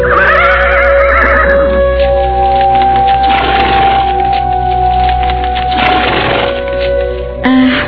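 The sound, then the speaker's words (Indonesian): A horse whinnies loudly near the start, followed by a steady rumbling bed of noise as a horse cart carrying Naradipa and his family rolls along the road, with occasional bursts and a brief sharp sound at the end. “Empu Janardana berdiri termangu sambil menatap gerobak kuda yang ditunggangi Naradipa beserta keluarganya.”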